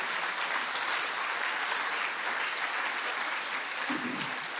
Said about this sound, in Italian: Siamo stati, ok, un applauso a Gesù.